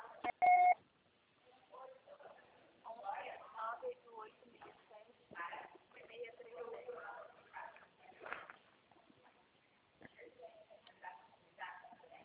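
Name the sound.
telephone number being dialed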